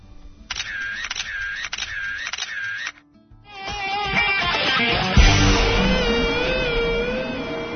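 Three or four camera shutter clicks with a whirring winder, evenly spaced, from a young artist's camera, give way to a dense, busier wash of layered tones and noise.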